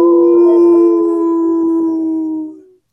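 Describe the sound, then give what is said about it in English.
A person imitates a wolf howl: one long, loud, steady note, sliding slightly downward before trailing off after nearly three seconds. “I just howled on mute.”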